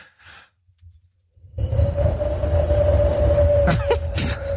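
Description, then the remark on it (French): A person imitates the wind and breeze by blowing: a short breathy puff, a brief pause, then a loud, sustained rushing blow carrying a faint steady whistling tone for about three seconds. “je vais imiter le vent”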